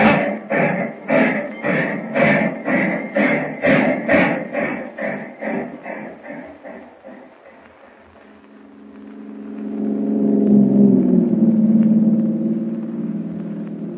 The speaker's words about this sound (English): Ah, train starting.